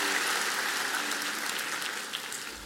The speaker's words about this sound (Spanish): Todos dicen amén, amén. Vamos a dar un aplauso. Se puede tomar su asiento.